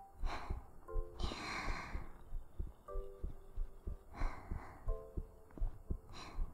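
A muffled heartbeat thumps in a steady, even rhythm, with soft breathy whooshes rising over it now and then. No one speaks.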